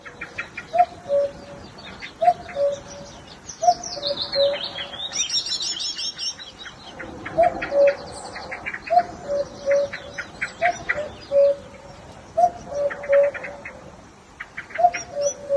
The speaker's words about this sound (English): This morning, a cuckoo was calling outside my house near Carrigdaniel in County Kerry. Some of the calls had three syllables, a bit like cuckoo, ooh, cuckoo, ooh.